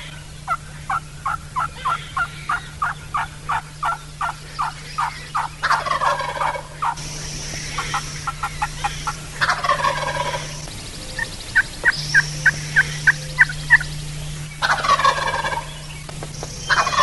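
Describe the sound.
A hunter imitates hen turkey yelps using several different calls while steadily moving toward a tom: a rapid series of evenly spaced yelps, repeatedly answered by loud, rattling gobbles from the tom turkey, with a steady low hum underneath.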